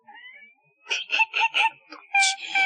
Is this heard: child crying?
yes